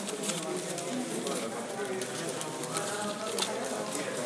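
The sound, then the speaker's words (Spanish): Quick, irregular clicking and tapping of paper ballots being piled into columns as votes are taken out for counting, soft and crisp, heard through a steady bed of background murmur and voices. “Se oye más nítido el clic clic clic de los papelitos.”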